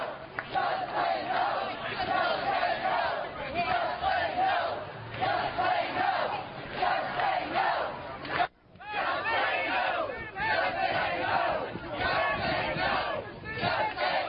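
A large crowd of about 100 people screams and hollers continuously in a parking lot in Texas, a dense roar of raised voices and shouts that stays loud throughout, with a brief break partway through before the yelling surges back.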